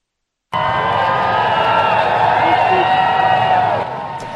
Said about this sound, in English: A hearty cheer from the crowd as King Charles III arrived in Berlin Wednesday for his first foreign trip as Britain's monarch.